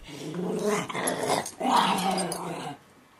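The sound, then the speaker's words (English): The dog Frankie growls playfully while wrestling with another dog, Memphis, in two sustained, rumbling bursts separated by a short pause, loud and gritty, with no talking over it. “If this was happy Frankie, try to imagine mad Frankie.”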